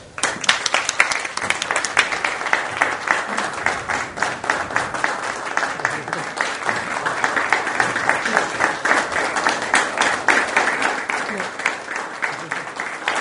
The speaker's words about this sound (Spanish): Y ahora los invito a poner la imagen del fundador. Y haremos un aplauso en homenaje.